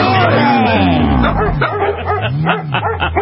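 A dog barks and yips excitedly in a continuous, loud burst of high-pitched vocalizations, with some whimpering tones mixed in.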